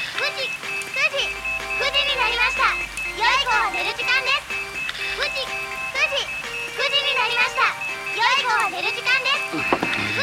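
A clock chimes a bright, tinkling melody that repeats its phrase several times without pause, clear and fairly loud over a low background rumble, ending abruptly near the close.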